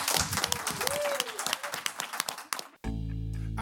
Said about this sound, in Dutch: Nou, zeker chapeau. Groot applaus voor groep.